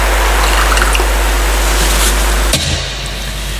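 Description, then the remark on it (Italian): A small trickle of water is poured into wine, a soft splash over a steady low hum, ending abruptly with a faint clink after a few seconds. No one speaks. “L'acqua, il vino, si segna la nostra unione con la vita di Ine Cloro.”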